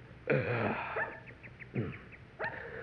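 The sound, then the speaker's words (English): A small, playful pup out in the street gives a few short, high yaps and whines, four bursts spaced about half a second to a second apart, clear with no talking. “Hey, look at there at that little old dog out in the street there.”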